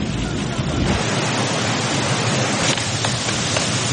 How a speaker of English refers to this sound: So we got Rambo. He's run to the waterfall area of the jungle here. You hear the waterfall in the background.